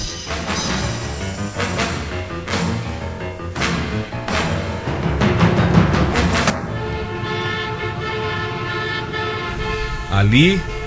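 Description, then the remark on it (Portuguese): A car pulls away with its engine revving while a horn toots, then holds a long steady honk, ending with a rising whine as the vehicle accelerates. “Pois bem, nós iremos no seu carro. Certo, iremos no meu carro.”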